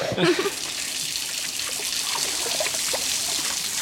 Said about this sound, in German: So, den restlichen Teig kannst du am Wasserhahn abspülen.